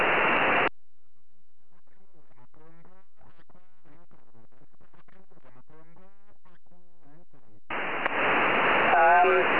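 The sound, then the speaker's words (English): Amateur radio pileup: a jumble of many faint, overlapping stations calling at once, framed by loud bursts of band-limited static hiss at the start and end. “Lots of stations calling there.”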